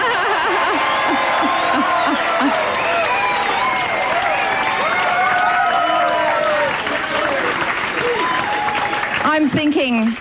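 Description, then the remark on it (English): A large crowd at a night-time campaign event in a hall roars and cheers steadily for about ten seconds, a loud, dense wash of many overlapping voices with the echo of the hall. “And it was packed out that night, but boy, there's a bigger crowd here tonight.”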